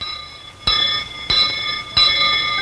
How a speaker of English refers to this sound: I'm your school bell, ding, dong, ding. Boys and girls, all hear me ring.